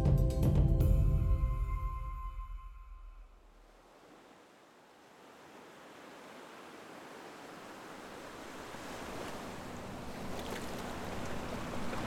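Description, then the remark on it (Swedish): A low engine-like rumble fades out in the first few seconds. It leaves a steady wash of warm wind with touches of cold sweeping over the open sea and rolling surf off the coast of Spain, late at night. The wash slowly builds, broad and continuous, with no voices. “Vinden är varm, men med inslag av kyla som sveper över havsytan.”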